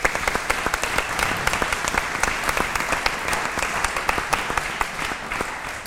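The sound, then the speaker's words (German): Sustained applause from an audience thanking event helpers, a dense patter of many hands clapping at a steady, fairly loud level for several seconds, with no voices standing out. “Großer Applaus”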